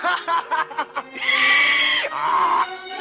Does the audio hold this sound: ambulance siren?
no